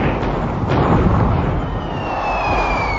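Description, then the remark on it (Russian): Cannon fire in a naval battle between the Turkish-Egyptian fleet and the allied squadron of Russia, England and France: a continuous heavy roar of booms and blasts, with one sharper crack early on and a high whistling tone sliding downward through the din. “Ядра кончились, так они нашито всякое железо в пушке забивают, а?”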